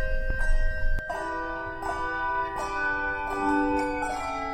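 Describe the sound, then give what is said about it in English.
Several handbells ring out one after another in a bright, overlapping sequence, each strike leaving a clear sustained tone that lingers and blends with the next, moderately loud. “But if you think of those tower bells, just think of smaller, higher pitched version of that.”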